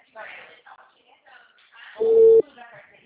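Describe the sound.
A phone call drops with a single loud, steady mid-pitched disconnect beep lasting under half a second, cutting through ongoing speech from people talking before and after it.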